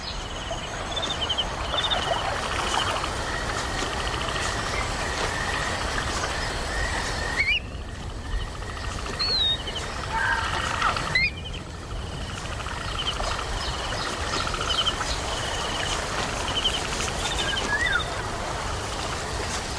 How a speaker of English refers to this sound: And hear the sound of the White Nile River, home to the Nubian flap-shell turtle.